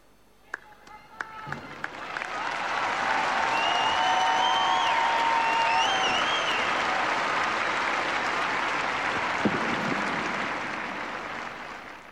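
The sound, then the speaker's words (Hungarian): A large crowd claps steadily for about ten seconds, applauding to thank the Holy Father for his teaching and blessing; the applause swells quickly after a few scattered early claps, holds loud and even, then tapers off, with faint voices mixed in. “Mai napon is, akárcsak az előző alkalmakkor tapssal köszönik meg a Szent Atyának a tanítását, az áldását,”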